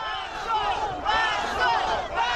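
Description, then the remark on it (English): A crowd of protesters in the city of Orsk, Russia, shouting "Shame!" in unison over the authorities' flood response, their voices rising in loud repeated swells about every half second, a rough chant with no single voice standing out. “In the city of Orsk, protesters gathered, shouting, "Shame!"”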